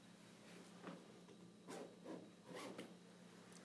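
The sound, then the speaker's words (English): A clothing zipper being unzipped in a few short raspy pulls spread over a few seconds, with a faint steady hum in the background and no talking. “Let me at that zipper and I'll help you relax before this meeting.”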